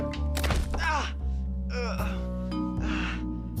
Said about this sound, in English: Moving to the dresser with the trophies, Kyle grabs the coin, knocking the trophy onto his foot.